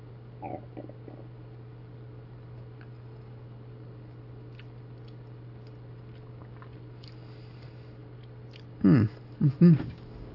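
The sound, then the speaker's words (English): A quiet sip of beet juice from a cup, taken as an emblem during a household Lord's Evening Meal, followed by a couple of wet gulping swallows near the end, over a steady low electrical hum with no talking. “Now it's coming to me. I'm going to take a sip.”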